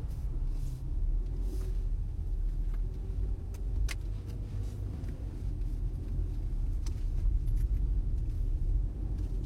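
A car rolls slowly into a narrow alley full of construction, its engine a steady low rumble throughout, with a few faint clicks and ticks over the drone and no one speaking.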